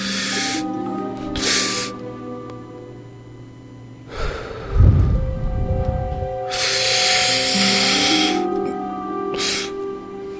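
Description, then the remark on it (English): Airy breathing exercise with no talking: a few quick inhales, then the breath held and a heavy, rumbling exhale into the mic, followed by a long, steady hiss of breath and one more short intake, over a faint steady hum. “I'm trying to do breathing, more breathing.”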